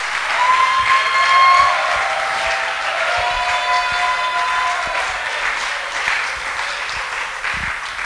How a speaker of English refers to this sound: Oh, I want you to clap well and shout.